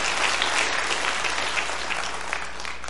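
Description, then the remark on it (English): An audience applauds the glorious grace of God, a dense, steady wash of many hands clapping at once, loud and sustained for the whole few seconds with no voices rising above it. “Why don't we do that right now? Just applaud the glorious grace of God.”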